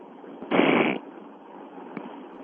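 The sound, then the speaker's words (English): A single forceful nose blow, a loud, rough half-second burst of breathy noise, followed by quiet background hiss and a faint click. “That wasn't what you think. I was blowing my nose.”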